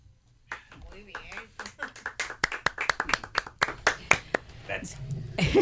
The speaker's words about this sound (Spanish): Esto es una o sea, un adelanto de los aplausos que vais a recibir el día 1, ¿no?